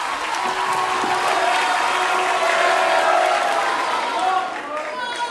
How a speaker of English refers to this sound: He came on riding a hoverboard. And he just glided right into the center of the stage, and he stretched out his arms, and he spun around and around, and the crowd went nuts.